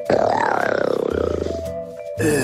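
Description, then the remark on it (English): A person growls out a loud, rough imitation of a tiger's roar, one sustained throaty snarl lasting over a second with a pulsing rasp before it trails off. “Here is my impression of Carol Baskin's tiger”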